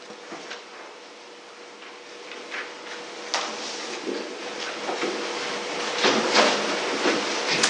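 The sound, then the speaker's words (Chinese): Chairs being dragged and shifted across a floor and arranged into a circle for a group discussion, with repeated scrapes and knocks over a steady low hum, louder toward the end, with no talking. “好，没有，那我们弟兄姊妹就可以把前面那个椅子摆一下，围成一个圈，就可以一起来分享讨论。”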